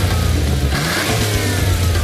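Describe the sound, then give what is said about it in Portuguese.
A car engine revs loudly, its steady low rumble surging in pitch partway through before settling into a sustained growl, with no voices. “Não para de pensar naquele carro que viu na concessionária?”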